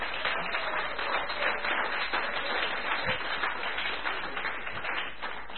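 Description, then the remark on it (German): Steady audience applause welcoming a guest at an evening event in a hall, a dense, even wash of many hands clapping at a constant moderate level with no voices rising above it. “Und auch du sollst mit einem herzlichen Applaus begrüßt sein bei uns.”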